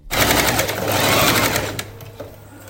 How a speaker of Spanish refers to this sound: Pues esto que suena es una máquina. Y es una máquina de coser. Y estamos en el Mercado de las Tradiciones, en un sitio muy especial, en una esquina que se ven flores, que se ven las paredes antiguas de Fuerteventura,